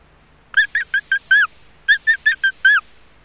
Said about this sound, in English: It's a mouse.